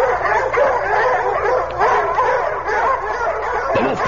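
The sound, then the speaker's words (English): A pack of Vanir hounds barks and yelps continuously as they close in for the kill, overlapping high-pitched bays and yips forming a loud, frantic chorus with no pauses. “And then I remembered my father being torn apart by the Vanir hounds”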